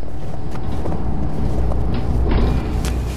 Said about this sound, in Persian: صدایی را از دور میشنوم، بیشک صدای اتوبوس است، اما مه صبحگاهی آنقدر غلیظ است که من به هیچ عنوان چیزی را نمیبینم.